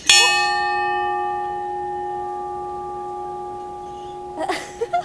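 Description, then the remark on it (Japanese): A single lovers' bell at an outdoor lookout facing Tanabe City and Minabe Town is struck once, ringing out loud and clear, then its steady tone slowly fades over several seconds before a few faint knocks and shuffling sounds at the end. “なかなか鳴りませんね、恋人の鐘はね。”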